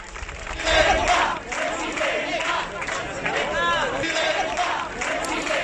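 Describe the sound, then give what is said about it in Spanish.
A crowd at a PP party meeting in Castilla-La Mancha chants "presidenta" in unison to greet Isabel Díaz Ayuso, loud rhythmic shouting with overlapping voices and steady background hubbub throughout. “Allí hubo quien recibió al grito de presidenta, presidenta, a Isabel Díaz Ayuso.”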